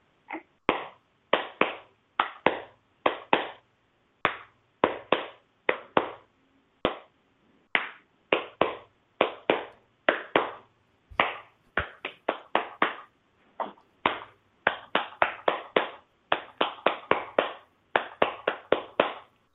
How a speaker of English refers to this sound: This is a very special kind of Dumpty Dum that I'm just learning. So, this is something I actually figured out with my snorty boy since he's here. If I start clapping with clapping the Dumpty Dum, he settles down. Anyway, here it goes.